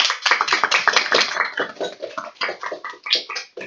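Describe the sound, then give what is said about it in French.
A crowd applauds steadily, welcoming a guest to the club radio of Radio FR de Brou, many hands clapping in a dense, continuous patter that stays fairly loud throughout, with no voices over it. “bienvenue au club radio de la radio FR de Brou sous un tonnerre d'applaudissements.”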